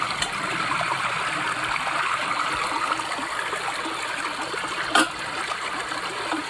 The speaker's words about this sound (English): I was walking over, and out of nowhere, I've never seen this, just because all the rain we've been getting, there's a full river right under this bridge.